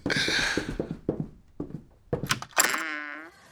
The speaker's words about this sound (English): Let's walk out in the exact same generic sound we always use and open the door. Okay.